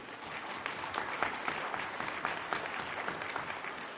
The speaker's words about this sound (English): Thanks for applauding my childhood.